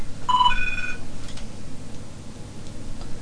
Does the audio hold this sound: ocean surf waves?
no